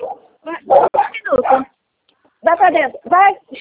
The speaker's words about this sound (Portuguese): Vai pra dentro. É meus cachorros. Venha! É três. Venha! Vem, Marley! Venha!